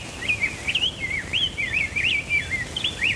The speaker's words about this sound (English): In the dawn hours of May 18th, 1929, a little brown bird made history. That day, Arthur and his team recorded a song sparrow, house wren, and rose-breasted grosbeak.